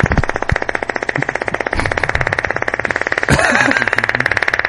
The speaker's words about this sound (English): We're always talking about farting. Fart sounds.